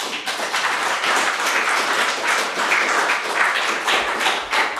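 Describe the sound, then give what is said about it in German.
Sustained audience applause after a talk, a dense, steady wash of many hands clapping at once, holding an even loudness throughout with no voices on top. “erstmal einen Applaus.”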